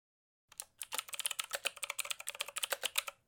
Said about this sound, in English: Alvin is typing.